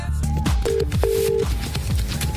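Steady electronic ringback tones of an outgoing phone call placed from the 94.9 radio show Her Society, two longer beeps in quick succession, heard fairly loud over a busy, layered background of other sounds.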